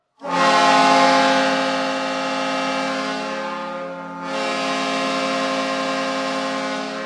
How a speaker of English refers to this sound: And right above the main bar is a real Great Lakes freighter horn. We're not lying. It is a freighter horn. And you pull the handle, you honk your bonk, and basically scare the pants off everybody in the bar.